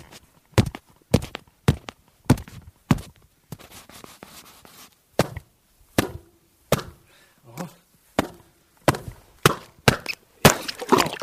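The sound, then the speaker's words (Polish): Crunching footsteps pick their way down a slippery, uneven bank to an ice-covered reservoir in the Notecka Forest, Poland, irregular, each step a sharp crackle with brief scuffs and pauses between, no talking. “Panie nadleśniczy, ja tylko, żeby słuchaczom udowodnić, że naprawdę mówimy o zbiorniku wodnym, na chwilę zejdę tutaj na brzeg. Ślisko może być, ale postaram się nie poślizgnąć.”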